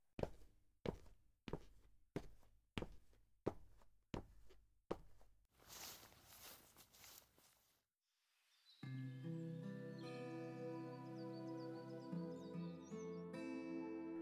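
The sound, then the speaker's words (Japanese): Steady footsteps and a brief rush of noise give way to small birds chirping softly in the background in a courtyard, where they are offered bird feed from an outstretched palm. Their light tweets are layered over a sustained, calm musical ambience. “小鳥の餌だよ。あげてごらん。手のひらに乗せて、腕を伸ばして。”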